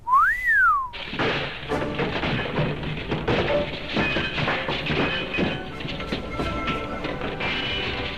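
On an opera house stage, a single loud whistle swoops up in pitch and back down during the first second, then a dense, steady wash of noisy commotion takes over for the rest.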